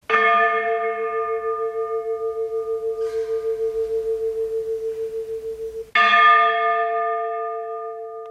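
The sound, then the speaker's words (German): An 850-year-old church bell, too old to be swung, is struck very gently with its clapper twice, about six seconds apart, each strike ringing out with a bright metallic attack and a long, humming, slowly fading tone with a gentle pulsing beat, heard alone. “schlägt die Glocke ganz vorsichtig mit dem Klöppel an.”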